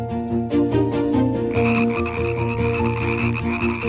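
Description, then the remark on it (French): Frogs croak in a steady, rhythmic chorus, their loud, buzzy calls pulsing several times a second without pause, with no voices present. “Ah bah oui, vous l'avez entendu, cette information nous a réjouis, celle-là aussi, hein, Renette ou Crapaud qui nous écoutait, du verbe coasser, accuser, levez-vous.”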